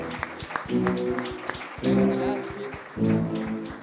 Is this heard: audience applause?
yes